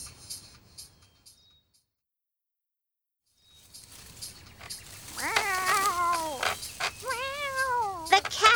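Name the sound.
frightened cat meowing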